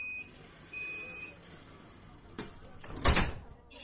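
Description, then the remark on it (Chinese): Two steady electronic warning tones, then the sliding doors of a crowded tram rumble shut, ending in a solid thud over quiet vehicle hum. “尊敬的旅客，电车即将关门，请坐稳扶好。”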